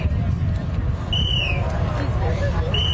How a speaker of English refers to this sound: Those sounds of whistles could be heard directing crews holding the strings in the parking lot of MetLife Stadium.